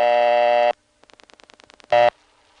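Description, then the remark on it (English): A steady, buzzy old-fashioned telephone dial tone from the 239 (Cedarhurst 9) exchange cuts off, a rapid train of about a dozen faint dialing clicks follows, then a short loud burst of the same tone returns after the first digit is dialed. “This exchange had an old-fashioned dial tone. There was a burst of dial tone after you would dial the first digit.”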